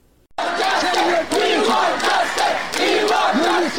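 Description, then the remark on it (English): A large crowd of Afghan protesters outside the UNHCR office in New Delhi, India, demanding refugee status after the Taliban takeover, chants slogans in unison, loud voices rising and falling in a steady, repeated rhythm after a brief moment of quiet at the start. “These slogans by Afghans living in New Delhi have been ringing in the aftermath of the swift Taliban takeover outside the office of UNHCR, the United Nations Refugee Agency.”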